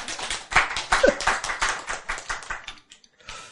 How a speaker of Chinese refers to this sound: 这样的解释赞不赞？ 赞， 拍手。